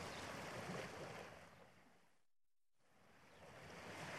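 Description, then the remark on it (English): A steady, full rush of ocean surf and breaking waves at a beach fills the scene, briefly dropping away to near silence midway before the wash of the sea swells back in. No voices. “We're having fun at the beach.”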